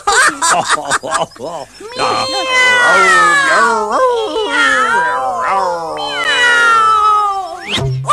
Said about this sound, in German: Na, die Katze? Miau? Oh ja!